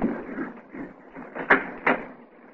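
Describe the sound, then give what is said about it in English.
A front door being opened: a low rustling handling noise, then two sharp clunks in quick succession, moderately loud. “Is that Mr. Johnny? I'll let him in.”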